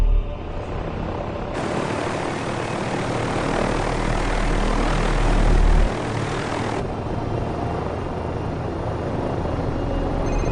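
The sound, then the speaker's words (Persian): A steady, buzzing propeller drone, an unmanned aircraft controlled through an app connected to a phone, drones on throughout, swelling louder as it passes overhead for several seconds before easing back to a constant whir. No one speaks. “یه هواپیمایی بدون سرنشینه.”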